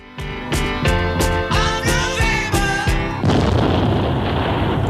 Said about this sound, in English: That's a good way to end a song, though, isn't it? Just a bit of, just an explosion.